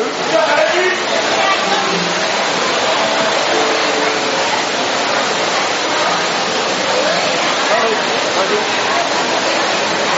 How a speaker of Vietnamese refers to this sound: Phải mưa ướt hết.